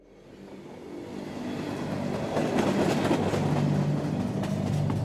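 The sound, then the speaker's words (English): A train rumbles steadily along the tracks through Millersburg, Oregon, on a cold, windy December night, building from a low drone to a sustained, loud roar with faint rhythmic clacking and metallic squeals, continuous. “On a deathly cold December night in 1995, harsh winds rattled the walls of a train trundling through Millersburg, Oregon.”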